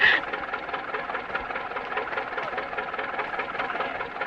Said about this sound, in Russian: Ну, поезжайте, а то трактор простаивает.